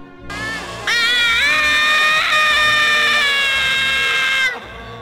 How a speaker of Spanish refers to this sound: Luego se oyó otro grito de terror.